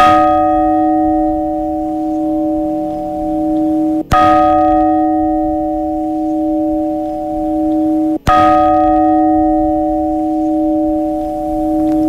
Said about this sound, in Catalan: com un amb un nom molt curiós, que era s'anomenat el seny del lladre, que era el toc de queda, per vespres, quan les campanes tocaven així.